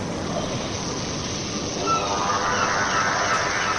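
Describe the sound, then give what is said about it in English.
A bird honks and squawks, goose-like, its calls rising partway through over a steady wash of rushing background noise, moderately loud. “Get away, you daft bird.”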